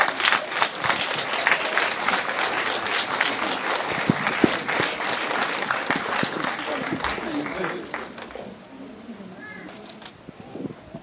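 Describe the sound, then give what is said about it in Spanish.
A crowd applauds the theater group of the Instituto Cultural Quetzalcóatl after their performance, a dense, continuous patter of clapping that fades slightly toward the end, with faint voices and a few bird-like coos mixed in. “Aplauso para ellos.”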